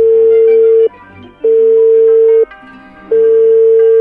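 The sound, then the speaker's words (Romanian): A phone ringback tone sounds loud and steady, repeating in about one-second bursts separated by short silences, as a call to Gabriel Bordea, mayor of Brebu commune in Caraș-Severin, Romania, on a Vodafone number goes unanswered; no voices present. “Am încercat să-l contactăm telefonic.”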